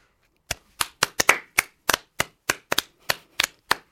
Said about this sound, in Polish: Ale to jest smutne, jak się klaszcze we dwóch. Nie, mnie to nawet bawi.